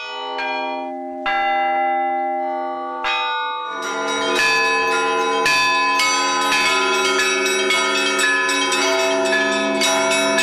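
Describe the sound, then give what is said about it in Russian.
Russian church bells ring out in a layered peal, a few deep tolls at first, then many smaller bells joining in a dense, rhythmic clangor with long shimmering overtones, loud, no voices. “Русский колокольный звон – музыка уникальная и незаменимая.”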